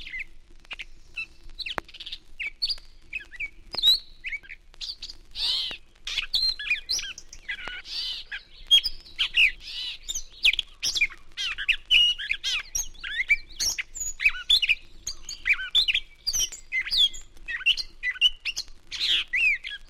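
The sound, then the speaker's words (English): A catbird sings a long, continuous jumble of squeaky, high-pitched, robin-like phrases mixed with harsh catcalls, running on without pauses, with no voices present. “Catbird varies his squeaky robin-like song with catcalls and omits the robin's pauses.”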